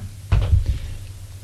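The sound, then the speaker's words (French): A bedroom door swings shut with a dull, muffled thump, followed by a couple of softer knocks as it settles into the frame, then quiet room tone. “Il referme la porte.”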